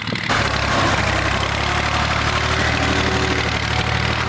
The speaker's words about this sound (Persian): در ولسوالی واشهر ولایت هلمند، افراد مسلح طالبان در نزدیکی یک زمین کشت کوکنار ساده و تماشا می کنند که چگونه تراکتور کشت کوکنار را تخریب می کنند.